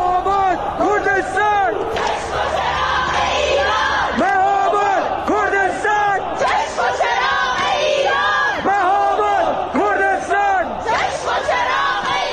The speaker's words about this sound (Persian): اینجا هم شهرک چیتگر تهرانه که اینجوری شعار میدن.